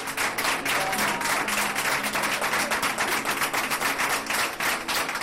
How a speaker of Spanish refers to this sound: Se suman celadores, limpiadores, auxiliares, toda la planta aplaudiendo.